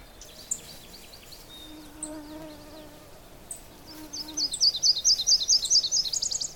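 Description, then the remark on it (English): A Nashville warbler's song of rapid, repeated high chirps rises clearly in the last couple of seconds in a bog in Cook County, louder and nearer than the scattered birdsong before it. A low insect-like buzz hums underneath. “And that was the Nashville a little bit closer, so you can actually hear it over the rest of the birds.”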